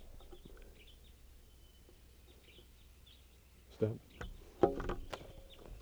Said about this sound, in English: Wild bird. It's a red male.